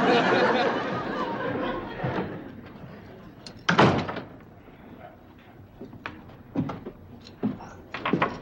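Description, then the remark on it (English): A door slams shut with one loud bang near the middle, surrounded by softer knocks and rattles and some faint background murmuring. “Say, I heard the door slam.”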